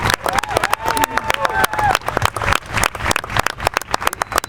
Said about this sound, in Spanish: Así que reitero y pido el aplauso para todos esos artistas que nos han apoyado.